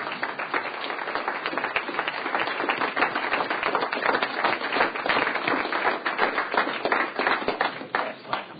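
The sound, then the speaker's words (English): Steady applause from a crowd fills the Senate chamber for a visiting father who came with his three children, a dense patter of many hands clapping at an even level for several seconds with no voices over it. “So let's give him a hand.”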